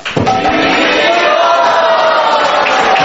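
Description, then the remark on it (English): A crowd roars with sustained cheering and loud shouts of "Hari Bol", continuous throughout, with a dense wash of clapping underneath, as a round of applause for a Maharaj being presented with gifts. “We have loud Hari Bols and a round of applause for Maharaj.”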